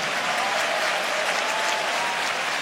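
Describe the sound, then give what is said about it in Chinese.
An audience claps for the people aged 60 and over, a steady, dense, even wash of many hands applauding at a fairly loud level with no voices standing out. “60岁以上给他们拍拍手。”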